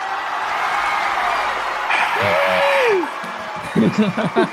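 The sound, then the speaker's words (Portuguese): A crowd roars steadily with cheers and shouts, one loud whoop rising and falling above the din, and a voice calls out near the end. “A galera tá gritando, eita! Tem torcida isso.”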